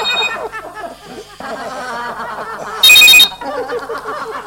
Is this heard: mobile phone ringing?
yes